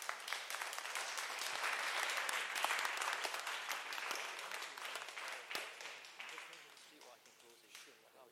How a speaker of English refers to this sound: Give Jesus a wonderful clap offering. God bless you.